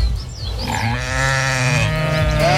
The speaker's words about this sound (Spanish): Una oveja.